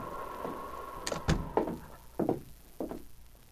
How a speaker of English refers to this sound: When there was no response to a knock on the door, Sergeant Preston lifted the latch and walked into the cabin.